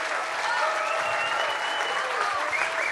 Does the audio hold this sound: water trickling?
no